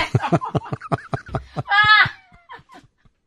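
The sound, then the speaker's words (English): A person imitates a horse's whinny: a rapid train of breathy, stuttering pulses rising into a brief high, quavering squeal, then trailing off in a few soft sputters. “Oh, there's a horse.”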